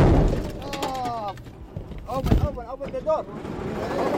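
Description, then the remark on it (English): An armored vehicle in a convoy of Iraqi troops takes a direct hit from ISIS fighters in the tight streets of Mosul: one heavy, sudden blast breaks through the steady engine rumble, while strained voices shout before and after the impact. “Let's listen to a little bit of sound where the vehicle that you're in, you know, takes a direct hit from ISIS fighters.”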